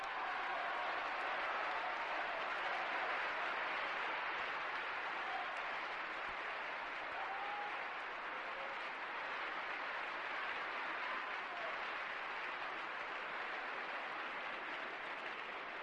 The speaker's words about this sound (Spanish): Hubiera sido inútil cualquier intento de meter baza en medio de esta ovación, que no tardará en estallar de nuevo.